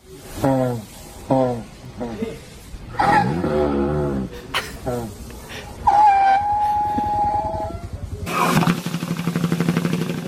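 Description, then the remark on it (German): An elephant snoring: a few rising, groaning snorts, then a long high squeaky whistle held for about two seconds, ending in a loud, rapid fluttering rattle. “ich habe noch ein Geräusch von einem schnarchenden Elefanten im Internet gefunden.”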